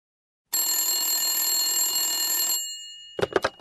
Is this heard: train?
no